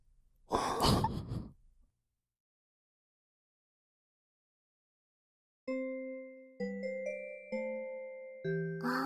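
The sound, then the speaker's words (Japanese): A breathy sigh, then silence, followed by a clear multi-tone chime ringing out a melodic sequence of sustained bell-like notes, fairly loud. “チャイム鳴ったね”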